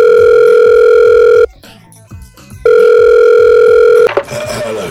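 A loud, steady telephone dial tone, as a call to Santa is placed, hums in two bursts, broken by a short pause, over faint rhythmic background music, then cuts off into a brief clatter near the end.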